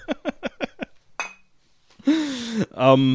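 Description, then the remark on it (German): A quick run of five sharp glass clinks in a steady rhythm, then a single ringing clink, followed by voices speaking. “Prost. Prost.”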